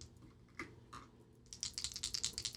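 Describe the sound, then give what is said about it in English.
A couple of sharp clicks, then a rapid burst of bright, clattering taps as two dice are rolled at once and tumble and settle on a hard table, fairly loud, with no one speaking. “I had two dice land at one time.”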